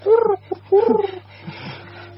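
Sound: pigeons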